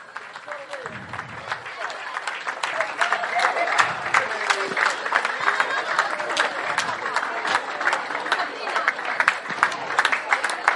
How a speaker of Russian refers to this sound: Ну, давайте. Аплодируем женщины на сцену. Ну, не жалейте ладошки. Сильнее аплодисменты.